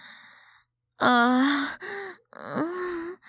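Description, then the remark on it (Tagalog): A person moans in three drawn-out, breathy vocal sounds after a brief quiet moment, the pitch wavering and rising slightly toward the end of each; fairly loud, with no words spoken. “Masarap pa pakinggan yung panakana kong pag-ungol at pag-halingin ko.”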